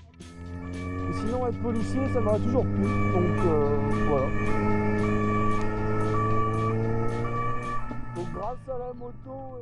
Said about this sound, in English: Moments later, with sirens blaring, the officers were able to stop the car.